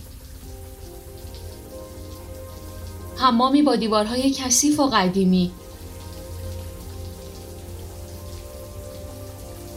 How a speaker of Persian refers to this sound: هانیوا میره زیر دوش آب.